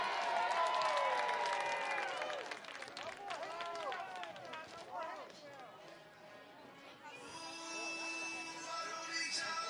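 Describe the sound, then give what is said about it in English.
A sparse crowd at a small ballpark applauds and cheers during a night baseball game, with steady clapping mixed with scattered shouts and whoops, lively, tapering slightly before picking back up near the end. “The crowd might be sparse tonight, but it is a mighty one.”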